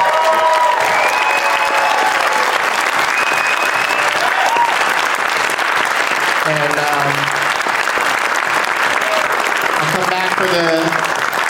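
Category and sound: crowd, audience applause and cheering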